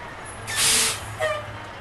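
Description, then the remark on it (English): A heavy dump truck at a quarry in South Wallingford, Vermont idles with a low engine rumble, then lets out a sharp hissing burst of air brakes, followed by a shorter second hiss. “At a quarry in South Wallingford, a steady stream of dump trucks rumble in and out.”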